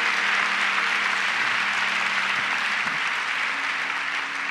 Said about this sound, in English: Come on, everyone who wants everything Jesus has for them. Let us clap our hands. Clap our hands.